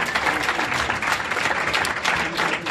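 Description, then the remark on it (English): Steady, sustained applause from an audience at an event for the authors of the book Democracy Now! 20 Years Covering the Movements Changing America, a dense wash of many hands clapping at an even loudness throughout with no pauses. “Keep clapping.”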